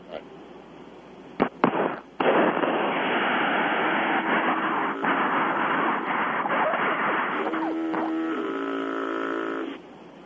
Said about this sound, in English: All right, did you hear that? I heard what sounded like a foghorn, yeah. Yeah, this is the harassment from these truckers.